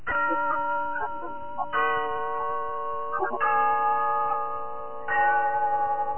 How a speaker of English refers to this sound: Yes, there's the clock in Glen Falls Town Hall, telling us it's time for Rensall's story of Big Sister, brought to you by Soapy Rich Rensall.